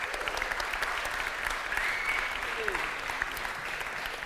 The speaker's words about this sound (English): We had a classic Lighthouse clap, as we do very much in Lighthouse services.